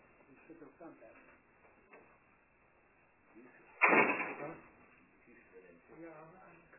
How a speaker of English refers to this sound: I think we just have to just close the door.